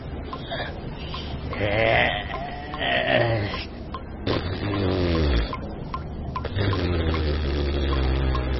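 Two people, a pair, surface from a river after holding their breath: water sloshes and splashes while strained, gasping vocal sounds rise over a steady rush of moving water.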